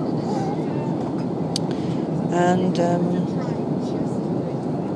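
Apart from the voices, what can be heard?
airplane cabin noise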